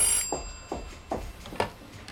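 A telephone rings with a brief bright tone, followed by a few evenly spaced ringing pulses, fairly quiet, with no voices.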